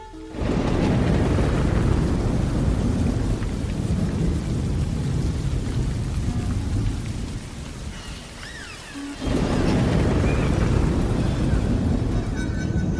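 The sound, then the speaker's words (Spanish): Heavy rain pours down in a steady, loud roar with low rumbling throughout, easing briefly in the middle before surging back to full intensity. “Pero un día, inesperadamente, mientras trabajábamos en la construcción de las bases de nuestra casa, empezó a llover tan fuerte que tuvimos que refugiarnos y detener la construcción.”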